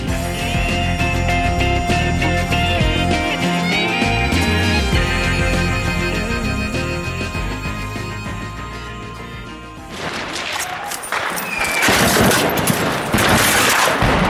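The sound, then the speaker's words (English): A tonal musical passage plays for about ten seconds, then gives way to loud, dense bursts of gunfire, rapid overlapping shots crackling and continuing to the end, with no talking, as rebels seize a Syrian government checkpoint in Daraa, on the border with Jordan in southern Syria. “Gunfire there.”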